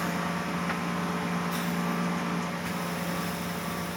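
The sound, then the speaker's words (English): A boy's ventilator machine at the Hogar Dulce Vida nursing home hums steadily with a low, constant drone and faint tonal whine, interrupted only by a couple of soft clicks; no one speaks. “When I met him, it was hard not to notice the sound of the machine humming.”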